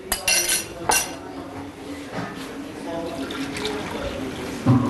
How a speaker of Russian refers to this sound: Теперь зерна необходимо промыть. Горох я промыла. Закладываю сюда, в кастрюлю. Заливаю водой.